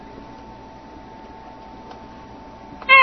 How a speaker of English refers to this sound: Okay, I hit E for the cat.